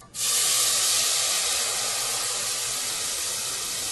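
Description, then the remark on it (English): A loud, steady sizzle as blended spice paste hits hot oil with crackling black cumin (shahi jeera) in a pan, bursting in suddenly and holding as a dense, crackling hiss for several seconds, with no voices. “When your cumin crackle, add the blended paste to it.”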